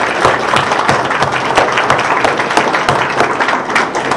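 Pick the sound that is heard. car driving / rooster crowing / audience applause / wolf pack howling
audience applause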